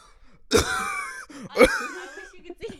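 Two loud, open-mouthed coughs about a second apart, each a sharp burst trailing into a raspy voiced tail, with quiet breathy sounds between them.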